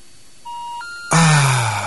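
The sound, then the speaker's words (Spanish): Steady electronic telephone tones, one pitch stepping up to a higher beep, as a call is dialed to a phone number in Spain, then cut off by a sudden loud, noisy burst of sound. “Lo voy a llamar por última vez.”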